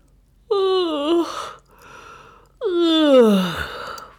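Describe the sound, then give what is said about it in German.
A voice imitates a little mouse in its nest yawning twice loudly: two drawn-out yawns, each a long vocal sound that slides downward in pitch and trails off into a breathy exhale, with a short pause between them. “Die kleine Maus im Mäusenest gähnt zweimal laut.”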